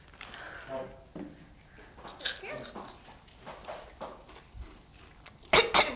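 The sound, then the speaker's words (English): A single loud, harsh cough bursts out near the end, after several seconds of quieter shuffling, breathy noises and faint murmuring in the background. “Have a nice cough.”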